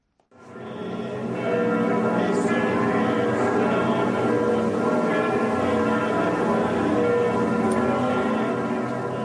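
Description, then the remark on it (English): Church bells in France, including Paris, peal continuously, several bells overlapping in a dense, ringing wash that swells in within the first second and stays loud and sustained throughout, with no voices. “From village churches to Saint-Sulpice in Paris, the sound of bells was everywhere.”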